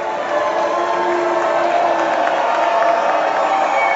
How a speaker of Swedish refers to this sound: Donald Trump och hans fru Melania möttes av både burop och applåder när de gjorde entré i salongen på Kennedy Center.